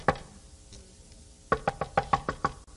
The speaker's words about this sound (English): And the angels go and tell, God says, who is that? Knocking on that door.